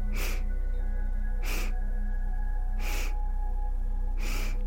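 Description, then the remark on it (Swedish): Four short, sharp sniffing inhales through the nose as part of a breathing exercise, evenly spaced about a second and a half apart, fairly loud over a steady low humming background. “Så 4 delar in i sniffningar och en lång suck ut.”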